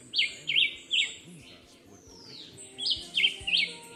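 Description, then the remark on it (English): A black-whiskered vireo, a small songbird, repeats short, bright whistled phrases in two clusters with a pause between, clear, over a soft background of forest ambience, in the forests around Adjuntas, Puerto Rico. “Also known as the black-whiskered vireo, the Julian Chivi is a small songbird that lives in the forests around Adjuntas.”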